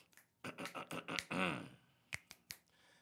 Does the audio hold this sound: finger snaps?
yes